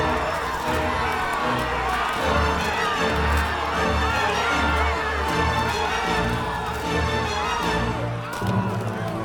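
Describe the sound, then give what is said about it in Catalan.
A dense crowd shouts and clamors continuously, many voices overlapping in a loud, agitated roar with occasional whoops rising above the din, steady throughout with a brief dip near the end. “S'acosta decidit a la multitud i s'hi obre pas.”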